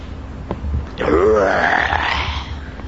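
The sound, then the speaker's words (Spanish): A deep, rough grizzly bear growl rises abruptly after a short quiet lead-in and rolls on for nearly two seconds, loud and wavering like a drawn-out groaning roar. “Iban caminando y entrando más, cuando en una de esas, de un rincón de la cueva, se levanta un tremendo oso gris.”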